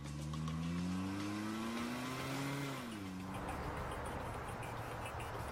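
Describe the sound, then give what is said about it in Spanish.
A car engine revs hard, its pitch climbing as robbers accelerate and pull away in a car taken from a cashier, then gives way to a broad rushing roar. No one speaks. “Escaparon en su auto.”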